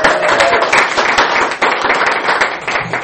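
A crowd applauds a musician being introduced, clapping steadily for about three seconds, dense overlapping claps forming a loud, even wash of sound with no talking.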